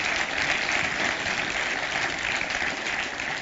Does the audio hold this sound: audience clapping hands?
yes